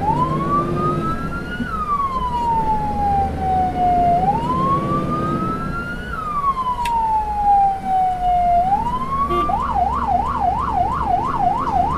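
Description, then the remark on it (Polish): A loud fire brigade engine siren, sounded as a test alarm, gives two long, slow rising-and-falling wails, then switches to a rapid high warbling yelp, with a steady low engine rumble underneath and no talking. “To tylko próbny alarm.”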